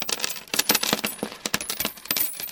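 Coins drop and clink in a quick, irregular cascade, bright metallic taps tumbling over one another for a couple of seconds, with no voices.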